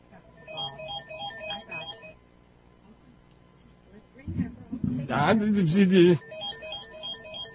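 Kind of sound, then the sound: signal or alarm, telephone ringer ringing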